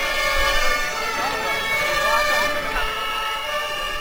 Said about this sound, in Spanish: Los bomberos de Villaverde reciben a la columna sur con estas sirenas.